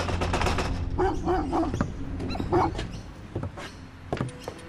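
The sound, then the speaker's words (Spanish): Dogs bark in a quick series of short, sharp yips and woofs, with a few louder bursts and whining tones over a low background rumble. “Sus tres primeros intentos no resultan, porque hay vecinos vigilando o perros ladrando.”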